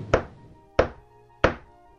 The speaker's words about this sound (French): Un soir, par un temps affreux, éclair et tonnerre, cascade de pluie, que c'en était effrayant, on frappa à la porte de la ville.